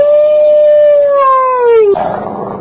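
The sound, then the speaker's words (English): A single drawn-out dog howl sound effect marking the radio show Morning's Edition's 'dog of the week', given to Bill O'Reilly; loud, holding a steady tone before sliding slowly downward in pitch and breaking into a short, rough, raspy tail. “And Bill O'Reilly, you are our dog of the week.”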